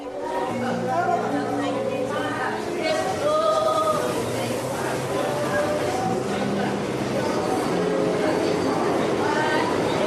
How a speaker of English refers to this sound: In the following clip, the Holy Ghost contends with the JMZ train. There is no way of avoiding this conflict. The service simply has to be louder than the exterior sound.